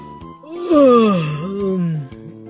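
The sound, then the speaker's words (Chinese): A voice imitates an owl's long, drawn-out sleepy yawn, rising then sliding down in a moaning glide, fairly loud, with no words spoken; the owl yawns as it walks home to sleep. “于是猫头鹰就打着哈欠走回家睡觉去了。”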